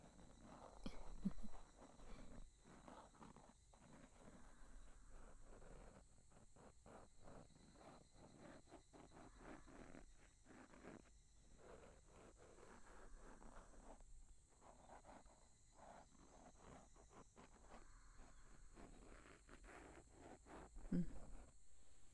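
cicadas chirping

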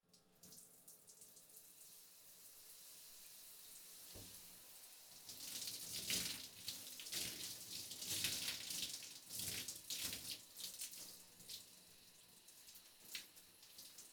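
shower water running

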